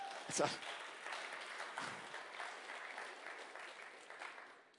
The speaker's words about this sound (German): Ich hoffe, meine Frau hört den Applaus, das wäre jetzt richtig wichtig, genau.